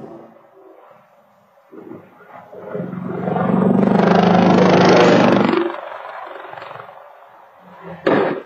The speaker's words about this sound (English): New this morning, a Nest camera captures the moment a military helicopter went down over an Alabama neighborhood, killing two people.